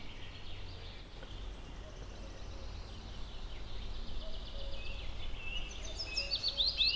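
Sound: common cuckoo calling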